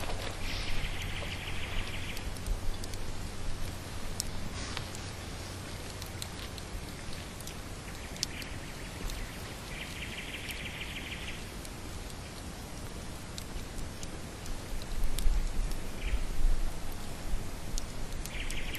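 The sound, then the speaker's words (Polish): A nightingale sings a few separate bursts of rapid, repeated notes, set against a steady hiss like rain or rushing water, with pauses between phrases. “Słowik.”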